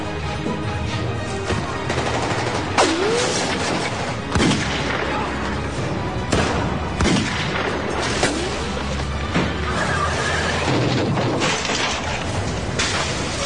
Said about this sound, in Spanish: La pandilla Barrow ha escapado del tiroteo de Joplin.